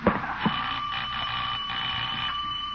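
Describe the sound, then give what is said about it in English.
A doorbell rings with a steady, high, buzzing tone that holds for about three seconds, after two short clicks at the start. No one speaks. “Doorbell!”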